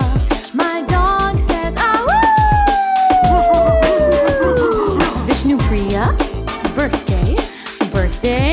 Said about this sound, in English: My dog says, woo, woo, to you